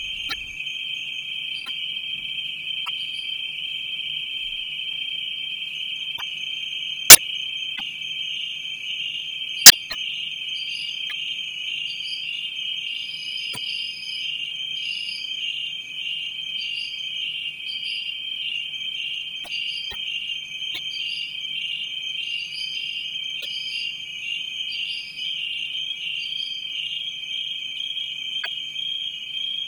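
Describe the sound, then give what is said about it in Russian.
A dense chorus of many Chinese grasshoppers, led by a conductor for an album piece without electronics or electronic processing, trills steadily and shrilly for the whole stretch, a continuous high buzzing with faint pulsing, broken only by two sharp clicks; no one speaks. “послушаем с этого альбома пьеску в исполнении кузнечиков китайских”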